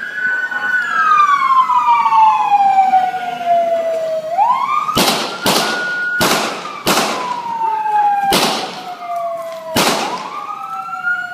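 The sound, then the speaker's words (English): Six loud, sharp gunshots ring out in quick succession over a wailing emergency siren, after several seconds of the siren sounding alone; no voices are heard. The shots are Fresillo firing his gun six more times into Sammy Yatim, recorded on a bystander's video. “Here's the audio of those few seconds, including the 6 gunshots.”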